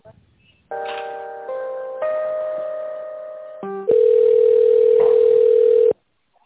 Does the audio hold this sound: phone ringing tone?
yes